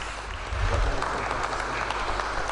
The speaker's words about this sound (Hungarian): Ezt a tapsot ezért a digitális fényképért kapta Cintos Ödön fotós.